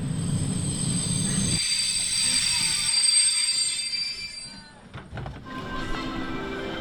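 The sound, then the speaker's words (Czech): An express train at Pardubice, Czech Republic, rolls along the rails, a steady loud rumble laced with thin, high-pitched wheel squeal; the deep low end drops away early while the clatter continues. “Povedlo se a to je dobře, protože za rychlík získám cenných 8 bodů, takže můžu pokračovat na hlavní nádraží.”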